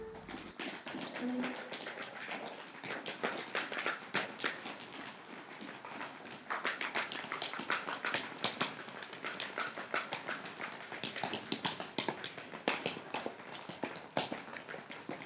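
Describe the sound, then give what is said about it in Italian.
Horse hooves clip-clop in a quick, steady run of sharp knocks that carries on throughout, with faint bird calls in the background. “Il cavallo chi lo sa?”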